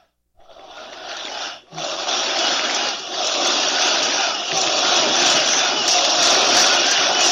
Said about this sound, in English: Now, folks, I don't know if you could hear that, but this is a sea of people as big as any Trump rally in America, filling the whole central square of Warsaw, screaming and waving and chanting Trump's name.